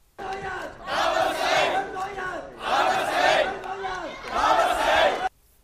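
Supporters of Lee Cheuk-yan shout encouragement such as "add oil" in three loud, rhythmic chanted bursts with short pauses, with clapping mixed into the noisy cheering, ending abruptly, as he waves to them from the public gallery at the vote counting centre of the Hong Kong Legislative Council Kowloon West by-election, around 3 a.m. on a Monday.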